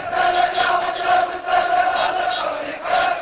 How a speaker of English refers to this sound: The crowd chanted, "Get out, occupier," and waved Iraqi flags and banners saying, "Down with Bush, down with America." They marched from the nearby city of Kufa to Najaf.